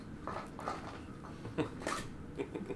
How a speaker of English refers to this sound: The dog is eating pop bottles. Yes, you're very cute, but you got to stop that.